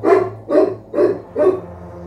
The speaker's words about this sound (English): My day started, much as you're hearing right now, with the dog barking at 5 o'clock in the morning.